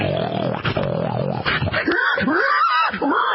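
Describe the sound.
A man loudly imitates a pig as done in competitions, starting with rough, throaty grunting that breaks into several sharp, rising squeals, all in one unbroken burst.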